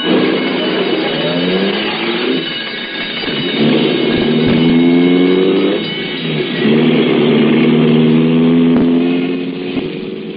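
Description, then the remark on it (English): A loud ambulance engine accelerates hard, its tone climbing and dropping through several gear changes, steady for about ten seconds with no voices. “An ambulance, Mac, is a sacred thing.”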